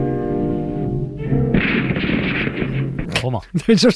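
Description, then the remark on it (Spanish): A loud burst of gunfire from a firing squad executing the man who had been speaking, harsh and rumbling, followed by several sharp separate shots cracking, with sustained tones and voice-like sounds around them. “Pero esos tiros fueron para fusilar al que hablaba este diciendo no sé qué de la semilla superior de la raza.”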